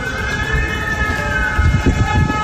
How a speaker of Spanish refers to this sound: De hecho, en estas últimas horas, las sirenas antiaéreas han vuelto a sonar durante la tarde en Kiev, en la capital, que Rusia ha golpeado hoy con dureza por primera vez en meses.